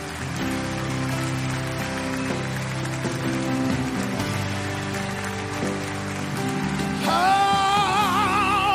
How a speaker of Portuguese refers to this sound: Aplauda mais alto ao Senhor.